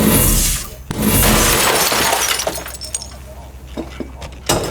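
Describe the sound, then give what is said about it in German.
A volley of rifle shots fired on the command to fire, at an inn: two loud, harsh cracks about a second apart, each trailing into a rough, rattling roar, followed by a few quieter, sharp bangs near the end. “Der gesamte Gasthof ist wegen Ihnen und Ihrer Knallerei in Aufruhr.”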